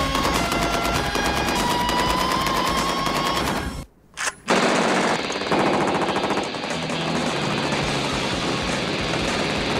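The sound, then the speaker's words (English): Loud, rapid automatic gunfire from a TEC-9 submachine gun, a cheap spray gun made in South Miami; sustained bursts of fast cracking shots that break off briefly, then resume steadily with no voices. “And that there is a Tech 9, a little cheap ass spray gun made out of South Miami.”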